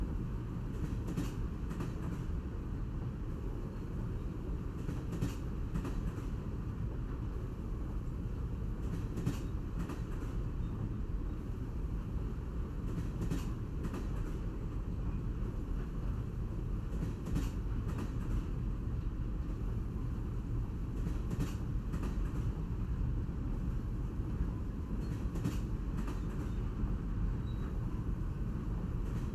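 Steady rumble inside the lounge car of a moving train with panoramic windows, dense low-frequency roar with repeated sharp clicks and rattles from the wheels and carriage, constant in loudness for the whole stretch, no voices.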